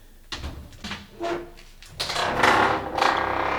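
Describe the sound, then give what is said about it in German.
Footsteps approaching, a series of about six dull, scuffing thuds at a steady walking pace, growing louder and more gritty toward the end, with no one speaking. “Still! Ich höre Schritte!”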